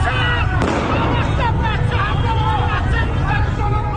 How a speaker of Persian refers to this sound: تصاویری که از خیابانهای ایران منتشر می شوند پر هستند از صدای گلوله و جراحت ساچمه هایی که در بدنها فرو رفتند.